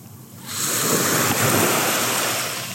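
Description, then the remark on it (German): Ocean waves rush onto the shore in a loud, broad wash of surf that swells after a quieter start and holds steady, with a breezy hiss over it and no voices. “Ich sitze hier am Meer und erinnere mich an ein Zitat”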